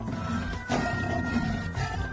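A lion roars in one deep, rumbling, sustained burst lasting about two seconds, loud, with no voices.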